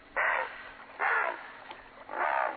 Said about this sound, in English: During fall and winter, they defend the areas where they feed as adamantly as other birds defend their nesting territories in spring. The herons challenge and scare away intruders, including other great blue herons, by sounding this call.